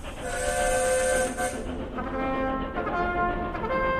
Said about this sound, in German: In den 1860er Jahren ist im kaiserlichen Österreich ganz schön was los. Die Eisenbahn rauscht jetzt quer durchs Habsburger Reich. Von Wien nach Salzburg, nach Krakau und runter bis zum Hafen von Triest.